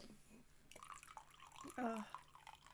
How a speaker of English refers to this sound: Let me just pour some coffee. There we go.